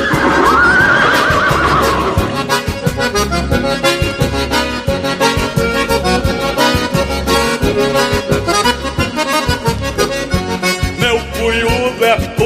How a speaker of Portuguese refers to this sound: Para amansar essa éguada, não é preciso jinete, basta apenas um relincho do cunhudo do Alegre.